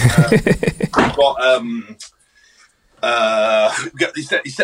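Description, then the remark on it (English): A door is handled and pulled shut, a quick series of clattering thumps, followed by a brief lull and then muffled sound of a video being watched. “sorry, I'm just going to close this door, my wife's watching the video.”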